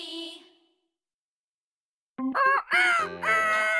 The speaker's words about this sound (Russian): О, это же петух! Ты что, потерялся?